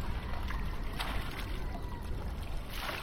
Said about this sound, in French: On entend encore quelques bateaux de pêche.